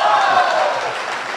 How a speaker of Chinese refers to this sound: 谢谢朋友们的掌声鼓励。哎，如果说您这个掌声再热烈点会更好。